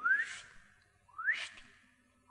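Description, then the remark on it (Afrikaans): A person whistles an imitation of the call of small birds that sit on a fence and whistle: two bright, rising whistled notes about a second apart, with a third just beginning as the sound cuts off. Fairly loud, with no talking. “In die oggend as ek my studeerkamer oopmaak en hulle hoor het, 5 minute, dan sit hulle op die heiningkies en hulle fyt vir my net so.”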